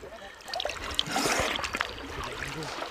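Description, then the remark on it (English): Splashing and trickling water in the Green River, just outside Mammoth Cave National Park, as a diver moves at the surface, with a burst of spray from a snorkel being cleared amid steady, dense water noise. “Stand on this side, because as soon as I blow my snorkel, you'll be in the direct path to my water.”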